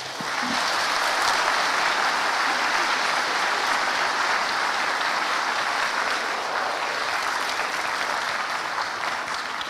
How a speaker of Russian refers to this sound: спасибо, заслуженные аплодисменты.